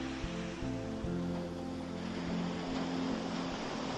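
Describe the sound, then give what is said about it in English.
Ocean waves wash steadily onto sand in a continuous, fairly even hiss, with a faint low droning hum underneath and no voices. “Just watch the peaceful waves flowing like your breath in and out, in and out.”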